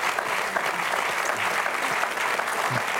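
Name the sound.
audience applauding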